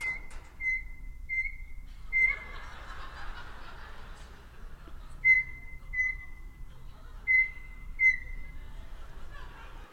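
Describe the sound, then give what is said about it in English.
A rattling clunk as a microwave door is opened and closed, then Carmen, a pet bird, imitating the microwave button beeps: short, steady, high-pitched chirps in a quick row, then in spaced pairs, over a faint background hum. “So what you're gonna hear is me opening and closing the microwave door, which Carmen will take as her cue to make the beeping of the microwave buttons.”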